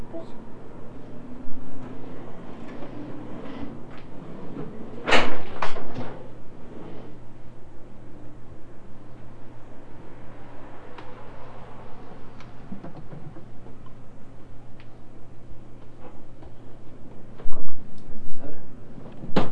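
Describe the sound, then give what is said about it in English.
A high chair is pulled out, dragged across the floor with a short scraping burst and a few clunks and knocks, amid steady room noise and faint background voices. “Why don't you pull your high chair out?”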